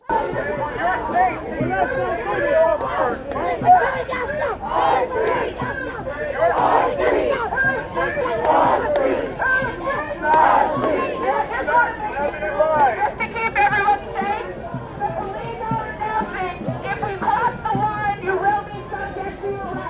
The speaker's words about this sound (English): An officer with a bullhorn warned the crowd to step back for their safety, but his message was quickly drowned out by chants.